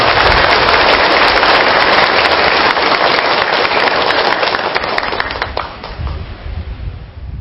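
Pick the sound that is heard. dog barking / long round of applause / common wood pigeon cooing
long round of applause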